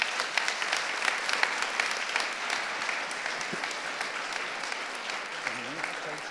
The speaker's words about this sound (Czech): Dobrý večer, děkuji za potlesk, asi ho nezasloužím.